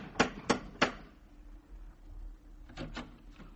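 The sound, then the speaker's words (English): A brass lion door knocker on a brownstone on 93rd Street raps three times in quick, evenly spaced strokes, sharp and loud, then a few softer, muffled knocks follow after a pause of low background rumble. “Third name now, and address, a little further uptown, 93rd Street, brownstone and door knocker of brass lion.”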